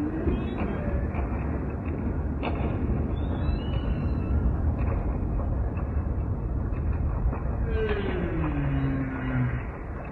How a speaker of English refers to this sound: by coincidence, they were close enough to this microphone that we could hear them loud and clear. There's kind of this mixture of sound then from the volcano and the whales that just fascinate.